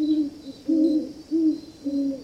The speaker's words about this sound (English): This large bird's quiet nocturnal habits make it go unnoticed. In the northeastern U.S., it's unusual to hear great horned owls, except in the dead of winter when they breed and rear young.